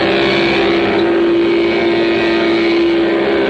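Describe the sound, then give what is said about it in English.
A Mattel Vroom toy engine mounted on a trike and started with a key makes a steady, buzzing engine drone for a few seconds, loud with a strong constant hum and a slight revving quality, imitating a real engine. “Sounds like a real engine.”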